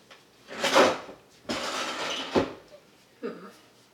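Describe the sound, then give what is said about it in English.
A sticking drawer is forced shut in a few scraping, grinding shoves, ending in a dull thump, followed by a brief muffled sound. “That drawer gets stuck.”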